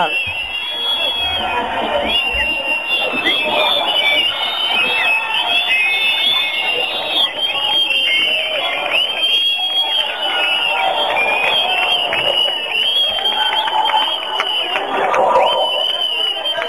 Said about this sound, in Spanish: Mira, queríamos que escucharais el sonido de la manifestación de fuera, ya que por las paredes no podéis, a través del teléfono, que escuchéis el sonido en directo de la manifestación. Escuchamos ese sonido, compañeros.